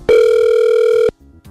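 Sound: telephone ringing tone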